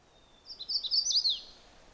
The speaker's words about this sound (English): The bird I'm recording, oh, if he'd only come closer, is a magnolia warbler. Sort of, the only way I can remember that song is kind of like Chappa Chappa Chewy. But it varies a lot. It's a difficult warbler song to learn